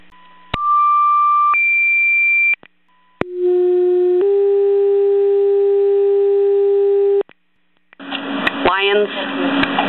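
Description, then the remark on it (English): Loud, steady fire dispatch radio alert tones for a general alarm: a two-tone sequence of a lower pitch stepping up to a higher one, then a long sustained tone, followed by crackly radio chatter with a voice calling all available manpower to a working structure fire at the old Nabisco plant on Hill Road, Lyons. “Yep, put us off for a general alarm, I'll need all our equipment to the scene.”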